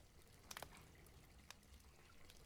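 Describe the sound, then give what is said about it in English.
Quiet water moving in a bath of cooling water, a soft continuous wash with a few sharper splashes near the start and one brief splash midway, with no talking. “The water is getting kind of cold.”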